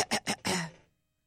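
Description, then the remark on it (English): A person clears their throat before a singing impersonation: two short rasping bursts followed by a longer, gravelly hack that trails off into silence. “Okay, I just need to clear my throat.”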